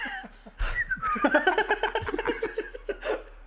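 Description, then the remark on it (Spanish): A person whistles a drawn-out, wavering tune that slides downward, imitating the whistle of the El Silbón legend, with giggling and breathy laughter mixed in. “El silbón. Así va. ¡Oye, el silbón!”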